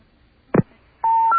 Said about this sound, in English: Okay, so we dialed the number, but as soon as it starts ringing, we will start the timer going. This time we don't have a touch-tone phone, so we can't push any of those buttons.